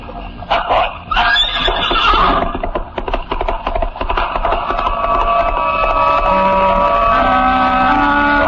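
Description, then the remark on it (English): A horse whinnies loudly, a shrill wavering cry, then quick uneven hoofbeats clatter as it gallops off, fading under a sustained droning tone that fills the final seconds. “Trailed closely by the gigantic black dog, galloped away.”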